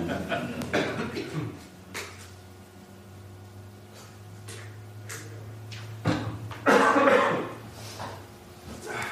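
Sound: coughing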